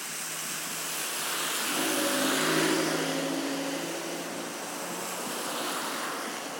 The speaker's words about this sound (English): Oh, we would get all the traffic now. I thought he was going fast and he wasn't.